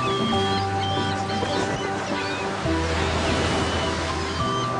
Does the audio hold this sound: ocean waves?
yes